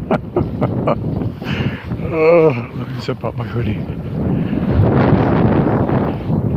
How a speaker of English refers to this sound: Yep, that's a cold wind.